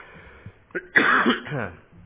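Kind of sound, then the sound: human body sound, coughing and throat clearing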